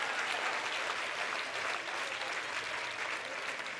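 Steady applause from a crowd, a dense wash of many hands clapping at an even loudness for a few seconds, with no voices standing out.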